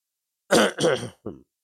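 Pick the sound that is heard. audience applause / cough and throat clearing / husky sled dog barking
cough and throat clearing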